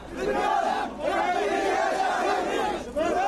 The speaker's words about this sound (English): People mourning the death of an 18-month-old Palestinian child, vowing retribution as the small body is carried through the village of Duma on the West Bank.